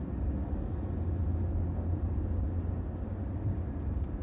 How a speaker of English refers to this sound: First time I've seen this many cars coming into Croxmont. Well, the festival starts tonight.